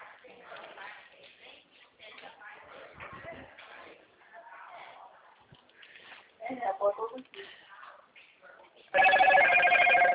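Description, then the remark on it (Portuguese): A landline telephone starts ringing loudly near the end, a bright warbling electronic ring cutting in after several seconds of muffled, indistinct talk and shuffling. “esse que ligou agora, é?”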